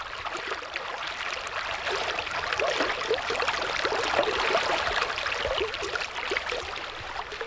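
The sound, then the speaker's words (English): A steady rush of the San Pedro River in Arizona, southeast of Tucson near the Mexico border, flowing and burbling over stones under a cloudless sky at sunset, a continuous bright babble that holds an even level throughout with no voices. “we're standing here on the banks of the San Pedro River.”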